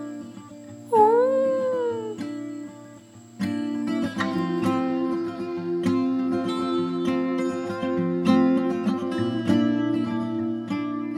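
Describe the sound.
A voice imitates a fox howling, one short rising-and-falling wail, loud over a steady droning background, followed by busier layered music-like tones with sharp clicks.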